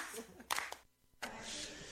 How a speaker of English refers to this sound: singing, just the hand claps.